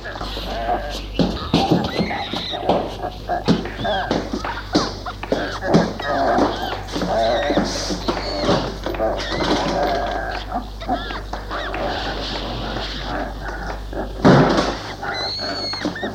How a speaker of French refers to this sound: Il s'aperçoit que ces bruits, cris, sortent de derrière la porte condamnée. Et à chaque fois qu'il y a un coup dans la porte, ça la fait vibrer.